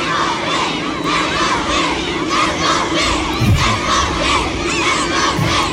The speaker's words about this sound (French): Accueillis comme des rockstars à la mi-journée avec des centaines de fans, parfois aux couleurs de l'équipe de France, en train de crier les noms des Bleus.